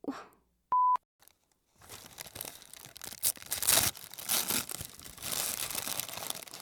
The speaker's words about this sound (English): Is that satisfying or is that just annoying? The sound of wrapping paper. I don't know if that's relaxing or if that's just, like, obnoxious.